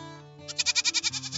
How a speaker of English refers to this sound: look at the goats. They are eating leaves.